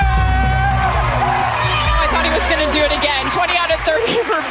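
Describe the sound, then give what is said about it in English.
A person yells and whoops excitedly over a noisy crowd, loud, with bursts of cheering and shouting running through the whole stretch, as judges Carrie Ann Inaba, Len Goodman and Bruno Tonioli give a dance score of 20 out of 30. “I couldn't hear that you were yelling like that when the judges are giving your score.”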